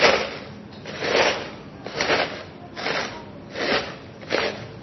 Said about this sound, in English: But many of the grains, you could actually compact them and shake them down a little bit, just like I'm fixing to do with these chips. So yes, I'm going to ruin some nice chips here. So bear with me.